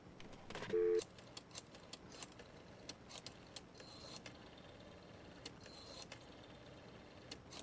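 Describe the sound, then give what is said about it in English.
Pages of a thick telephone book flip in quick, irregular succession as someone looks up a phone number, each turn a soft papery rustle or flutter, fairly quiet, with no talking. “The sound of the flipping of pages.”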